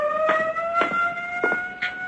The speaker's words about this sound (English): First the siren must stop. It offends my ears. Governor, give the order.